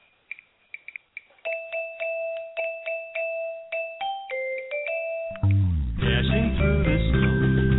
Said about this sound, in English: Jingle bells.